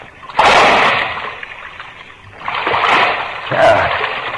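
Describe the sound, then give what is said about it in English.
A heavy splash as a person drops down into waist-deep water in a dark passage, followed by sloshing and churning water, with a second burst of splashing a few seconds later. Fairly loud, no talking. “I don't know how deep the water is. Here it goes.”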